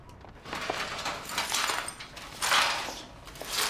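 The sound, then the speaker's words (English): A brush rasps in a series of uneven strokes in a shop, sweeping small shards of smashed glass from a photo frame that tinkle and clink against a dustpan, fairly soft, with no talking. “sweeping the smashed glass from the photo frame into a dustpan.”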